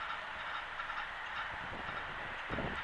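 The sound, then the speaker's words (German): A moving train rumbles past in a steady, broad roar, with a few faint low thumps and rattles from the wheels. No one speaks. “noch ein fahrender Zug.”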